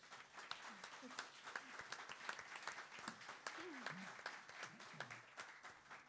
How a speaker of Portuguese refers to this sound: Um aplauso